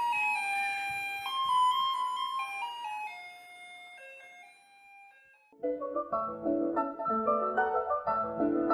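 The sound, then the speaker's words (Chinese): A garbage truck's electronic jingle plays Beethoven's Für Elise as a tinkly, bell-like piano melody, then a fuller, louder keyboard passage takes over for the final few seconds. No one speaks. “那究竟是什么样的原因，让贝多芬的这一首《给爱丽丝》脱颖而出，成为我们垃圾车的音乐呢？”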